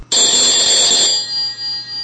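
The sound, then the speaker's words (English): A Skype outgoing call ringing tone, from a call placed to a listener in Germany, sounds once, bright and electronic, bursting in abruptly for about a second before tapering into a softer lingering ring. No one speaks. “I make a Skype call to our most faithful listener”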